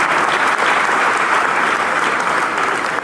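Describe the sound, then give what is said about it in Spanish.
A large audience claps steadily and loudly throughout for Francisco Amelia, governor of Carabobo, a dense, continuous wash of many hands with no pause and no one speaking over it. “Yo quiero pedir un aplauso también para el compañero Francisco Amelia.”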